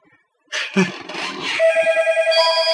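A telephone rings with a bright, rapidly trilling tone that holds steady, following a brief burst of shuffling noise at the start.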